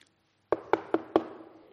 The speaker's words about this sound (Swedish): Då knackar det på dörren. Och där står det en ung mamma med ett nyfött barn, en dotter.